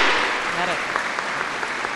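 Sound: audience applause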